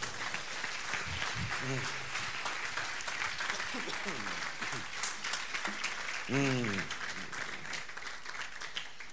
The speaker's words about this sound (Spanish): ¿Cuántos dicen amén? Fuerte aplauso a Cristo.